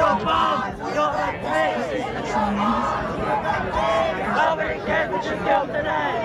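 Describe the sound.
A large crowd of students chants and shouts together outdoors at the University of Michigan's commencement ceremony, waving Palestinian flags in solidarity with Gaza; a dense, steady wall of many people calling out in unison, sustained and fairly loud throughout.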